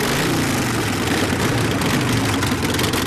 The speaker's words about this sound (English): A couple dozen Chinese guys dressed in black leather park their Harleys.